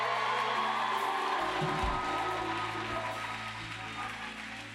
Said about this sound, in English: Here comes the rain.